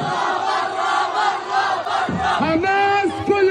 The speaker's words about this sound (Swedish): Hundratals demonstranter protesterade på gatorna med slagord som Hamas avgå, vi vill inte dö och Hamas ut, det rapporterar vår internationella korrespondent.